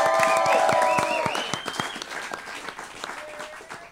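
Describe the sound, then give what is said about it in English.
An audience applauds comedian Mike Cannon, a returning guest of the show RU Garbage, with a dense patter of claps, joined by whoops and high cheering shouts at the start, then the clapping gradually thins and fades over a few seconds. “Make some noise for Mike, please.”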